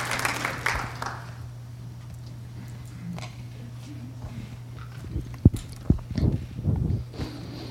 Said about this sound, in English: So just begin the drama with some applause. Give the actors a little applause and give them a win.